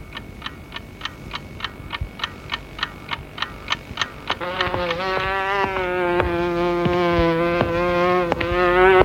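insect, fly buzzing

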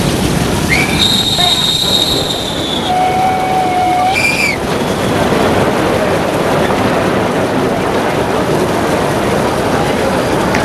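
vehicle, train running on rails

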